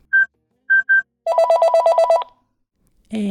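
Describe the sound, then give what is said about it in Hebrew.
A girl dials a friend's phone number: three short, clear keypad beeps, then a quick run of about nine evenly pulsed tones, ending with a brief muffled clunk as if the handset shifts. “בלעתי משהו חמוץ וחייגתי.”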